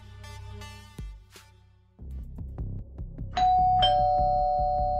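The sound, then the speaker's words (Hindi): A doorbell at a door is rung two or three times in a row, its electronic ding-dong tones ringing clearly, with the final chime lingering as it fades. No one speaks. “एक दरवाजे पर उन्होंने दस्तक दी, दो तीन डोरबेल मारे और फिर एक शख्स ने दरवाजा खोला।”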